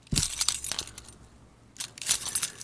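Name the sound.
keys jingling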